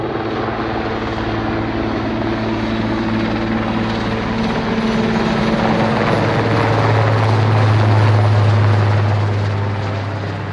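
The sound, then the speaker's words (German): A German Federal Police (Bundespolizei) helicopter flies overhead during a large forest-fire disaster-control exercise in Brandenburg, practicing water drops for firefighting, with a steady, loud rotor and engine drone and low tonal hum lines shifting in pitch. The sound swells louder toward the end before easing slightly. “den Wasserabwurf für die Brandbekämpfung über den Helikopter von der Bundespolizei”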